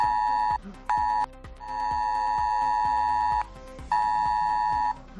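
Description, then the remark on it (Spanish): A loud ES-Alert emergency alert tone on a mobile phone, sent for a chemical accident drill in Zuera, Zaragoza, blares in long, steady harmonic blasts broken by short gaps, with a faint rhythmic low thumping underneath and no voices; it keeps sounding until the message is read. “Vas a recibir en tu móvil un mensaje del sistema Es Alert con este sonido que no va a parar hasta que no leas el mensaje.”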